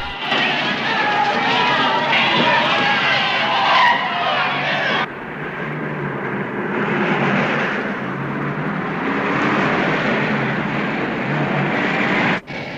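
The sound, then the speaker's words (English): A police car speeds away from an unruly mob with screeching, skidding tires and a roaring engine, loud, filling the whole stretch with a harsh, continuous rush of noise. “are bundled into the back of a police car and driven away from the unruly mob.”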